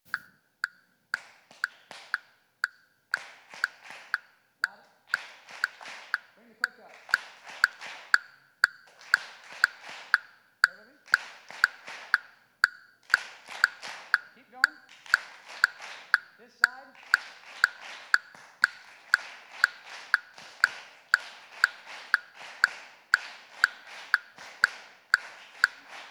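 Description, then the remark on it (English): A metronome ticks a steady, even beat of sharp clicks, roughly two per second, continuing for the whole stretch over a faint murmur of voices in the background. “This is a metronome, and a metronome is designed to keep everybody on time.”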